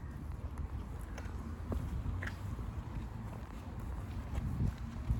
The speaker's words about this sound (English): And as we watch the horses eating the grass, we think about God's word and how that nourishes us.